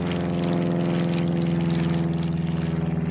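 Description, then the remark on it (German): A small propeller plane drones loudly, its steady buzzing engine note wavering slightly as it passes low overhead, with no voices present. “Die Ratte flog im Tiefflug um das Fass herum und so konnten nun alle das Flugzeug und seinen Piloten sehen.”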